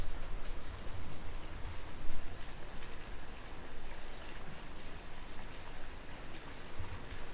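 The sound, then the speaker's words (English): A steady, soft wash of outdoor rain with scattered raindrops pattering throughout as a thunderstorm approaches on a Friday night, heard near apartment balconies, fairly quiet and constant, with no voices and no distinct thunderclap. “People in other balconies from the apartment across the way are gathering with their children to watch the storm that's coming.”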